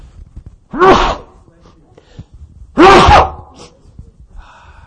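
Two loud sneezes from a person speaking on stage, about two seconds apart, each a sharp voiced burst that breaks into a hissing blast, with near silence between them.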